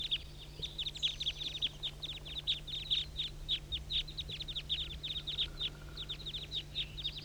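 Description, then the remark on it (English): A flock of about 25 birds calling together in a dense, continuous chatter of short, high-pitched notes overlapping throughout, with a steady low hum underneath and no voices. “Start recording the flock. Good grief, there must be 25 birds.”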